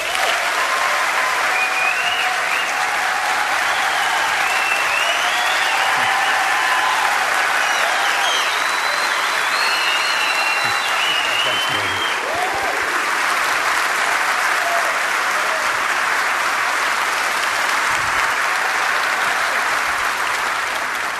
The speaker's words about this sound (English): Look, if it means anything to you, that was a greater applause than what Shannon Bream got a few weeks ago.